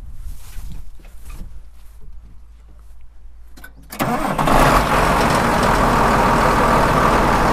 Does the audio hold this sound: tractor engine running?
yes